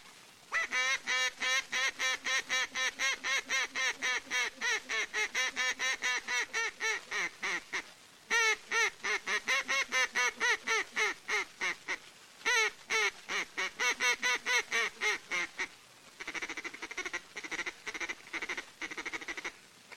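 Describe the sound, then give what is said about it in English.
Loud imitated duck quacks from a duck call, blown in fast, steady runs of many raspy notes, broken by a few short pauses, with a softer, looser series at the end; duck calling as done near the Mertazine River at Fontana, Kansas. “Here's duck calling as done near the Mertazine River at Fontana, Kansas.”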